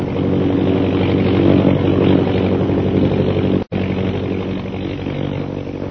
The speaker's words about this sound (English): Look, a plane. What? You're right. And it's a British government plane, too.